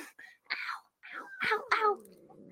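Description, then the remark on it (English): A cat named Midnight, being held up, growls in a series of moaning, wavering yowls that rise and fall in pitch, ending in a steady low rumbling growl. “Let me hold her so everyone can hear the growls.”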